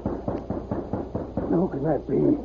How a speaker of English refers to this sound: he heard a rap on the door.